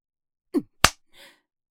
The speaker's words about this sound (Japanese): 痛そうだな。ビンタの衝撃と同時に男の尊厳を踏みにじられている気分になるだろう。 はあ、頬が真っ赤になってるじゃないか。